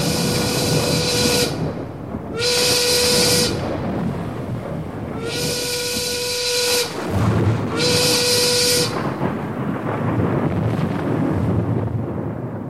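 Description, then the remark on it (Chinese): Four long, loud blasts of a steam whistle, a warning siren sounded by a sea rescue team on the shore on a stormy night, at a steady pitch with rich harmonics, each lasting about a second and a half, separated by short gaps over a constant rushing hiss. “于是岸边的海上救难队立刻鸣起警笛，动员大家救难。”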